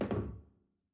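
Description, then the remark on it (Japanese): A single hollow, solid thud as a small bath stool is set down on a hard floor, with a short resonant decay and no voices. “はい、椅子どうぞ。”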